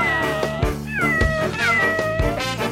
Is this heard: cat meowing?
yes